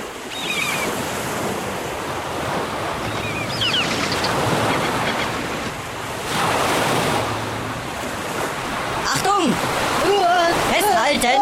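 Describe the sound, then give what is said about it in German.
A stormy sea roars continuously, with waves as high as houses surging and crashing under gusting wind, loud; near the end, strained voices cry out over the churning water as a raft rocks back and forth. “Ein Sturm kommt auf. Die Wellen sind so hoch wie Häuser.”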